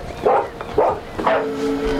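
A dog, Timmy, barks loudly three times in quick succession, with a steady rhythm of sharp, full barks and no talking over them, as it stops in front of a rock jutting from the ground with several points.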